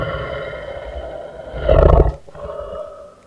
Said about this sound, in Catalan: Van recórrer tot el poble i quan van arribar van sentir un soroll molt fort, un soroll d'un rugit que s'assemblava al d'un drac.